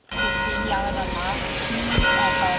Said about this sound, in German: Nur die Kirchenglocke bleibt nicht still an diesem Vormittag auf dem Hauptplatz in Graz.